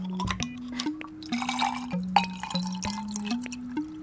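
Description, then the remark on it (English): Gin, Saint-Germain and tonic water glug and splash into a glass in several short pours while making a cocktail in a kitchen, the gurgling tone rising in steps as the glass fills, with drips between pours and no voices. “Gin first, Saint-Germain, and then some tonic water.”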